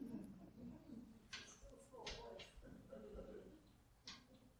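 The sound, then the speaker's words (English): A bird pecks at a window: a handful of sharp, irregular taps spread over a few seconds, over a low background murmur. “Sorry, there's a bird that taps at the window there.”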